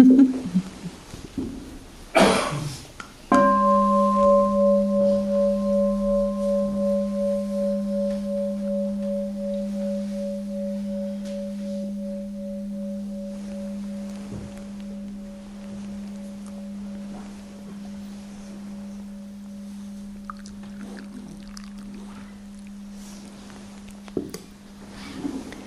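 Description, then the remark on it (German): A single meditation bell is struck once, its low, steady tone with a higher overtone ringing out and slowly fading over about twenty seconds. A few soft rustles come before the strike. “Dann möchte ich um eine Glocke bitten und ja, eine Meditation kommt gleich noch.”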